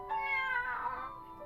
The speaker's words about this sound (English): Just as we were about to get into the thick of it, Leth meows and lies down underneath the table. I assume it feels satisfied after having its milk.